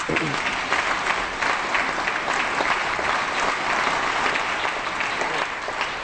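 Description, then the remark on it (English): Steady audience applause fills the whole six seconds, a dense, even wash of many hands clapping at a fairly loud level, with no single claps standing out and no voices breaking through. “Anyway, applauding.”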